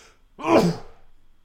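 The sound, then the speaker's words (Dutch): A single sharp, voiced sneeze bursts out, lasting under half a second, then fades into quiet breathing. No one speaks. “En op de tweede nies zei God”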